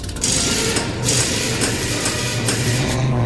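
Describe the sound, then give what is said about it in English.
A car engine runs loud, its steady mechanical rumble rising a little toward the end as if revving while the car pulls forward for repair. No one speaks. “Look, pull your car forward.”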